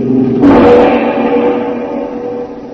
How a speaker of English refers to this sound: The four friends listen helplessly to the approaching enemy car.